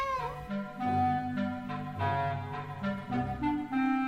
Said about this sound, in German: Katze in Peter und der Wolf ist dargestellt durch die Klarinette und man kann sich wirklich so eine geschmeidige Katze vorstellen, die auf ihren vier Pfoten durch die Gegend läuft.